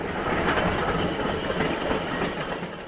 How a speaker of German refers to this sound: Der 54-Jährige schaut etwas zerknirscht auf seine Draisinen, die derzeit noch über die alten Gleise der stillgelegten Wriezener Bahn rollen.